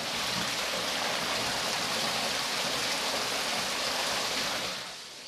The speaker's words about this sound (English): Here we are, the source of the water, and there it is. Mini waterfall.